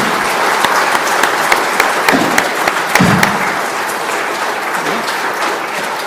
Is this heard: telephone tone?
no